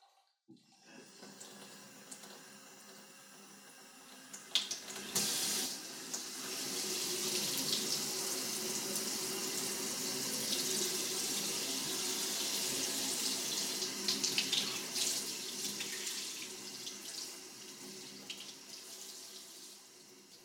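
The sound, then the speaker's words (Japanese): Shower water rinses lotion off the ears, starting with the right ear at gentle force, in a steady, broad hiss that starts softly, swells after a few seconds and stays strong, with small splashing fluctuations. No voices are present. “それではシャワーでお耳を洗い流していきますわね。”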